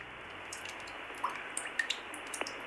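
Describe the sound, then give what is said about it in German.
Irregular water drips from a glacier at about 3000 meters melting in summer, a dozen or so short plinks and taps of varying pitch over a steady hiss, heard through a telephone line in the Calling the Glacier project. “Wenn man tatsächlich aber im Sommer anruft, dann hört man ihn wirklich schmelzen, dann tröpfelt es in der Leitung und das klingt dann wiederum so.”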